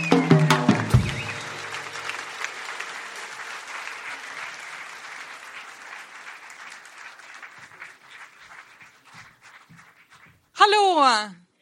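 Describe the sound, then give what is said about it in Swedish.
An audience at a live recording breaks into loud, dense applause for the evening's opening speaker, gradually thinning and fading over several seconds, ending with a brief burst of a different, tonal sound. “En varm applåd för kvällens inledningstalare,”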